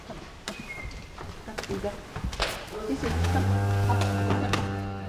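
Cows shuffle and clatter on a hard floor indoors with scattered knocks and hoof thuds, then one cow lets out a long, loud, low moo that carries through to the end.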